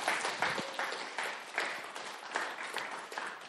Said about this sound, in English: All right. Can we have one more round of applause for all of our speakers tonight?